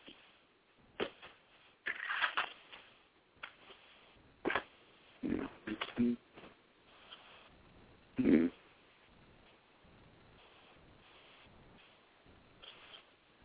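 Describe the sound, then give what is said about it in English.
Pens being handled and rattling together, with irregular bursts of sharp, bright clicks and clatters spread over several seconds, then fading to quiet rustling. No one speaks. “Those pens are driving me freaking crazy.”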